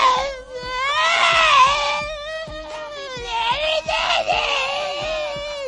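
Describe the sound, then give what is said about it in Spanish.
A person improvising a cappella vocalizes a loud, strained, wavering yowl, imitating a cat caught in a blender, with pitch bending up and down over several seconds and a rough, growling edge underneath. “se llama Gato en la Mini Pimer. Estoy improvisando, es que yo también hago cosas a capela”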